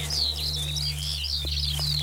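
A Eurasian skylark sings a continuous, rapid, high-pitched warbling trill of tumbling notes over a steady low hum in the background.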